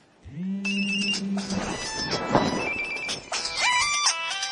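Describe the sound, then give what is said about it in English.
A mobile phone ringtone plays, bright electronic tones forming a short melody that shifts pitch over a few seconds, fairly loud with no one speaking. “Okay, you have just heard me pick up my phone call,”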